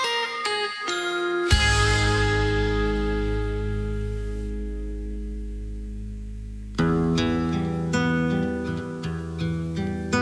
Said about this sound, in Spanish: Un teléfono.